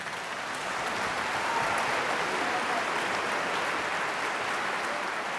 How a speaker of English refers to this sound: This is why, at performance end, we scream, stomp our feet, and throw our hands together, and we violently reawaken to our bodies.